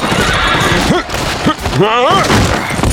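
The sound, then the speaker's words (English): A horse neighs loudly, a quavering whinny rising and falling near the middle, preceded by a couple of short squealing calls, all over a busy, noisy background, as its rider leaps it onto a wooden boardwalk amid a gunfight. “Frank had to dive to the side as Poole leaped his horse onto the boardwalk.”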